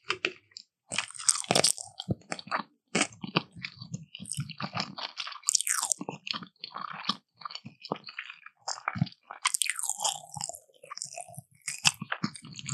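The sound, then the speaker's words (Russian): Chewing of sushi rolls topped with eel, with moist smacking and frequent crisp crunches in an irregular rhythm, fairly loud and continuous, with no talking. “Ты роллы ешь? Да.”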